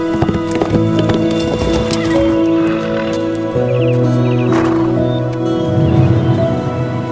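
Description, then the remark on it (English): Horse hooves clip-clop in a steady rhythm throughout, loud, with a horse whinnying partway through over a sustained tonal background. “Whisper things to horses.”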